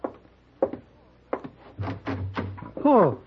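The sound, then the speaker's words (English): Paladin opens a door for Hey Boy, whose arms are full of baseball things: a few sharp clicks and knocks from the latch, then a drawn-out hinge creak, with someone speaking. “No, can't open door, Mr. Paladin. Arm is full.”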